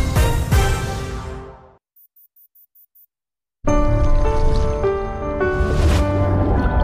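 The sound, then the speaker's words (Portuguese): Water runs steadily from a tap with a loud rushing sound. It stops for a moment of near silence broken by six short high beeps, then gushes again. “Feche a torneira.”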